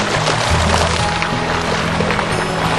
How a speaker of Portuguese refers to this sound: E com certeza a temperatura da água ajuda muito nisso. Essa é a fonte, aqui ela sai a 40 graus.